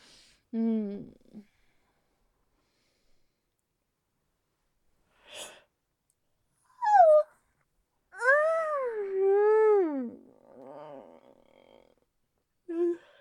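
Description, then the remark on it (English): A dog gives a loud, vocal yawn: a few short squeaky whimpers, then a long warbling whine that rises and falls before trailing off into a soft huff. “No silent yawn this time.”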